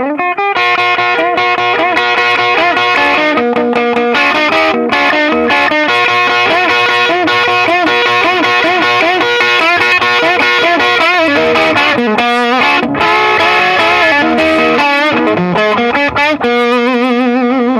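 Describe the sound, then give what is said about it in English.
Heavily overdriven electric guitar playing chords and melodic lines through a distorting amp, a knob slowly dialed up from 9 o'clock to full blast with the output at half, loud and sustained with a thick, buzzy, saturated tone throughout, no voices. “Okay, so you can hear how much it's distorting within the unit.”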